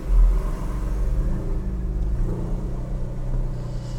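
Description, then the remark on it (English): A car engine rumbles steadily from inside the vehicle as it drives out of a garage, a deep low drone with a slight surge in the first moments, continuing evenly with no voices. “Let's get out of the garage.”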